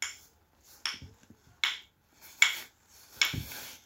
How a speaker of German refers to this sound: Der Regen tröpfelt erst ganz sanft auf die Erde.